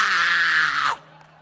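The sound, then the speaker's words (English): A voice imitates a child's shrill tantrum scream, as when a child in a shop is stopped from taking chocolate, one loud sustained wail for about a second that cuts off abruptly, leaving a quiet low hum behind. “You try to stop them, they embarrass you with screaming.”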